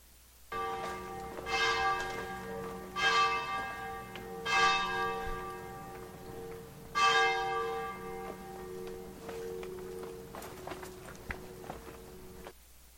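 Church bells ring in Frascati with four strong, resonant strikes at steady intervals, each leaving a long shimmering hum, while faint footsteps of two people walking through cobblestone alleyways and outdoor ambience continue underneath as the ringing fades.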